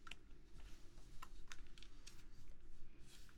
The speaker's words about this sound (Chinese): 两把键盘呢，其实有非常明显的区别。我先排除一下本身键盘上的横插线，让宝宝具体感受一下两把键盘敲击的不同的感觉。